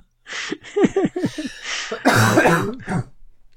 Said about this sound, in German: Du, Entschuldigung, Leute, wegen dem Husten. Tut mir echt leid.